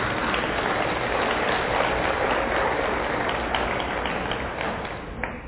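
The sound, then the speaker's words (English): An audience at a Bible study of the book of Ephesians applauds again for a man who has just arrived, a steady, dense wash of clapping that holds at an even level for several seconds before thinning slightly at the end. No one speaks over it. “Do you want to give him a round of applause again?”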